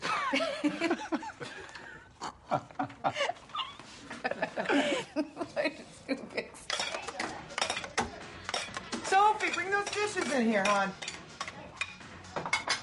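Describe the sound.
Dishes and utensils clink and clatter in quick, irregular bursts, while people talk and laugh softly over the kitchen noise.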